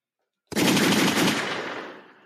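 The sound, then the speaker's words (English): A loud burst of rapid gunshot sound effect kicks in abruptly, the shots blurring into a continuous rattle before tapering off over about two seconds. No one speaks. “Gunshots for this.”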